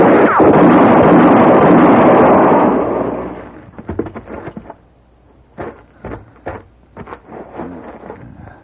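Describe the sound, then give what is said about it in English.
A loud gunshot that shoots a horse blasts and rolls into a long, rumbling roar lasting a few seconds, then fades into a scatter of short, sharp clacks and knocks in an irregular rhythm. “Mr. Paladin, he shot the horse.”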